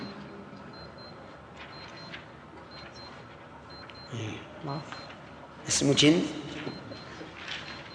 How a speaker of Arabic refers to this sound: رنة الساعة. لا الساعة مو هذه الرنة الأخيرة. ما لا باقي خمس. هذه الرنة الأولى.